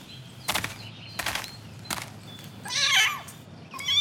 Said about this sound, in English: Listen, what's that? It's a kitten. Aww. Look, it's in the tree. Oh, it's so cute. It's got a small nose and small pink ears. And it's got blue eyes.